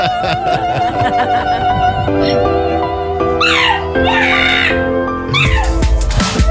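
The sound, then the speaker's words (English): A pug's howls and a donkey's brays are layered over loud operatic singing. Swooping, wavering animal cries rise and fall against sustained sung notes, getting louder and denser toward the end. “and he put together the donkey, the opera, and the pug.”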